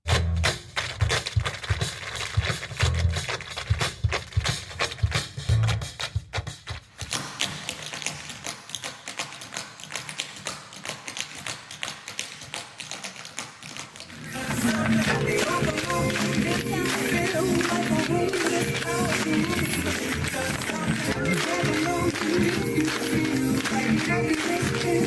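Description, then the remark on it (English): Rapid, crisp tap-shoe clicks from a tap dancing flash mob in Balboa Park, San Diego, patter in dense rhythmic bursts over music, the sound growing louder and fuller about halfway through as the accompaniment swells. “That's a tap dancing flash mob in Balboa Park in San Diego.”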